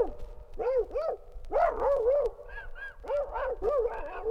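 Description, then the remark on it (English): A voice imitates a dogfight among dogs in a submarine: a rapid string of loud, rising-and-falling yelps, barks and snarls in uneven bursts, with no other talk. “But the dogfight in the sub sounded like”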